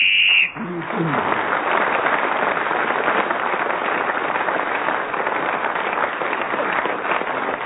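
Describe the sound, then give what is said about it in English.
Loud, sustained audience applause for Clement Freud, a dense, even roar of clapping that starts abruptly after a brief moment and carries on steadily to the end without easing off. “That was a very loud applause for Clement Freud, because you're going to have to clap him again in a minute, because it's now reached the end of the show”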